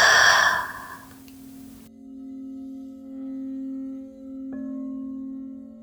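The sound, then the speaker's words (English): During a guided mindfulness breathing exercise, a deep breath drawn in through the nose and fully released, loud, gives way to a steady, sustained humming drone with a fresh tone entering near the end. “Deeply inhale through the nose. Exhale completely.”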